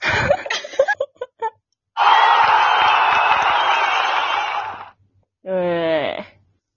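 A quiz-show style jingle sound effect, played by mistake instead of applause: a short, bright, rising electronic tone lasting about a second, following a few choppy bursts and a long, steady wash of loud, crowd-like noise.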